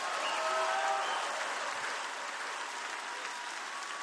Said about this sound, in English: Clap your hands and shout just a minute.